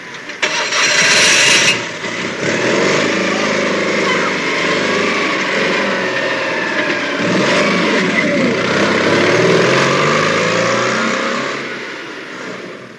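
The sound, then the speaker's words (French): Racing car engines from the driving simulation video game Gran Turismo 5 roar and rev continuously with shifting pitch, a loud, dense mechanical drone that swells and eases over several seconds before fading at the end. “Gran Turismo 5 est un jeu tout public de course automobile.”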